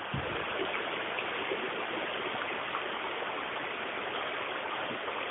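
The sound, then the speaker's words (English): Steady rushing of a river flowing beneath a bridge, a dense continuous wash of running water with no pauses, even in loudness throughout, with no voices. “I'm stood on a bridge now with a river flowing beneath me.”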